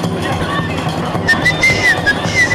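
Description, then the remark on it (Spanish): Loud, dense crowd babble fills a busy city square, many voices blurring into a constant din, with a shrill, wavering whistle cutting through several times in the second half. “Este es el ambiente. Este es el ambientillo, más o menos. Esto todos los putos días.”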